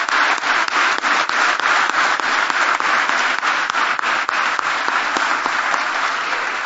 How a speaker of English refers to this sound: Would you please give Samantha a wonderful, warm round of applause?